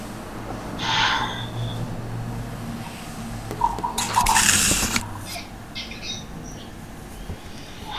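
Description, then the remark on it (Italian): A slow, deep abdominal breath drawn in, filling the abdomen, followed after a pause by a long, airy exhale as the abdomen is pushed in, with a low hum underneath and no talking. “Prendo aria, riempio l'addome, butto fuori l'aria, spingo l'addome in dentro.”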